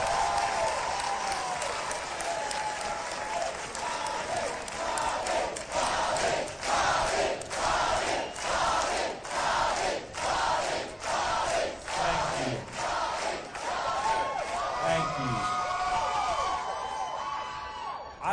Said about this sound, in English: This is democracy. Let's give them a round of applause for offering themselves to Louisiana.